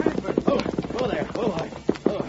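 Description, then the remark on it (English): Horse hooves clip-clop in a quick, uneven run of sharp knocks, with some voices murmuring in the background. “I'll get my horse.”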